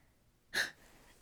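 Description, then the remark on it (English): A single quick sneeze bursts out, a short sharp breathy blast in otherwise quiet surroundings, with no talking around it. “Sorry, I had to sneeze.”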